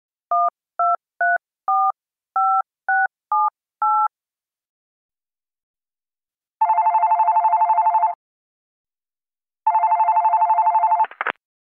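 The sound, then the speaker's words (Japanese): A man phones to request redelivery of a package: eight quick keypad beeps dial a number, then two long, steady telephone ringback tones purr with a pause between, ending in a sharp click as the line is picked up. No voices. “電話して再配達頼まなきゃ。”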